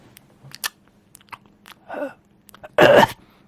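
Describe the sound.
A voice imitates soft ASMR-style mouth noises: scattered wet lip smacks and clicks, a breathy rush, then a louder, longer breathy exhale near the end, with no talking.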